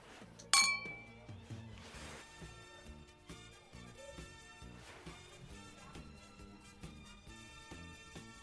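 Glasses clink together once in a toast, a bright ring that fades quickly while soft music keeps playing in the background.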